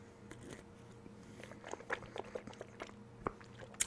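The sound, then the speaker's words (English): Sipping water from a small plastic bottle, with scattered soft crinkles, clicks and wet mouth sounds over a few seconds, quiet overall with a couple of sharper taps. “But anyway, I have, of course, my virtual water with me. A smaller bottle this time.”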